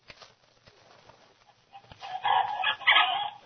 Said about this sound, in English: I'll go feed the chickens.